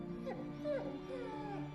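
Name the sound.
dog whimpering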